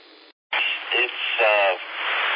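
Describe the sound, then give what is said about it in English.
Thin, band-limited radio reception with a steady wash of static hiss, a brief dropout near the start, and faint tinny voice fragments breaking through the noise. “Just a little bit of white noise in it”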